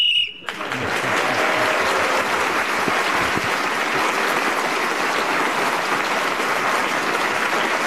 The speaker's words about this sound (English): was then speaking as the whistle went, gained that extra point.